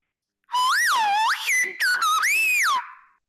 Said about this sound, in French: Et ici, ça va être en occitan sifflé. Donc, c'est Olorance Sainte Maria. Et il faut essayer de chercher Olorance Sainte Maria dans le sifflement. Essayez de reconnaître.